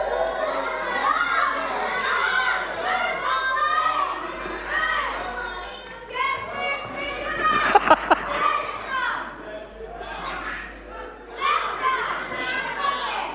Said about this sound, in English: Come on, girls, you need to cheer a bit harder or a boys brigade are going to get this.